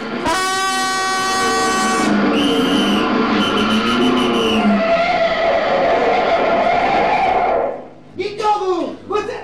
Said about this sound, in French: Oh, rien, chef. C'est quelqu'un qui klaxonnait.